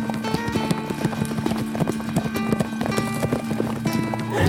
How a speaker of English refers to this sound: he jumped on the horse and rode even harder to get back.